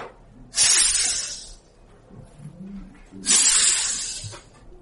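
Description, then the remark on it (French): A voice imitates a snake's hiss twice, each a loud, sustained breathy hiss of over a second that fades gradually, separated by a short pause. “Si vous avez vu très proche un serpent, c'est ce qu'il fait, n'est-ce pas? Il sifflait.”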